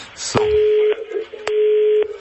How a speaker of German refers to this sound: So, jetzt wir hören, dass wir nichts hören. Das Telefon klingelt nochmal. Okay, dann müssen wir die andere Leitung entgegennehmen.